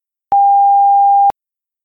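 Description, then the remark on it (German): A single steady electronic answering-machine beep, a pure mid-pitched tone lasting about one second with abrupt clicks at start and end, followed by silence. “Dann sprechen Sie bitte nach dem Piepton.”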